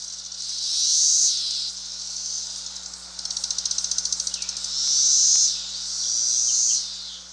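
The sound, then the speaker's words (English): A single periodical cicada calls, its high, shrill buzz swelling and fading in long waves, broken midway by a fast, ticking pulsed stretch before the droning resumes, fairly loud. “And finally, here's the call of a periodical cicada.”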